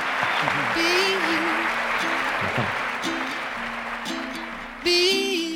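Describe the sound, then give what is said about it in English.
An audience claps steadily throughout, a dense, sustained wash of applause, while voices speak over it, with one louder exclamation near the end. “Big round of applause for”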